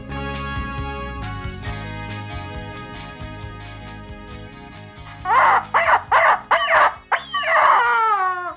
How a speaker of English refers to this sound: Chicken says, I could have done as much for the state of Texas last week as the governor did. And for crying out loud, I'm a rubber chicken.